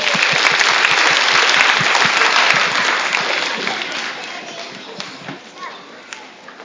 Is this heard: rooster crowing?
no